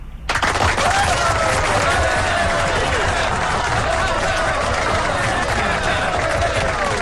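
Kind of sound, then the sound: crowd, applause sound effect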